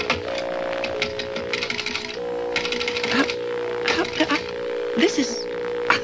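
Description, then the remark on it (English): Someone dials a telephone that has no dial tone, producing bursts of mechanical clicks and rattles in uneven groups, over a steady low hum with faint voices murmuring in the background. “Phone's dead, huh? Well, I can't get a dial tone.”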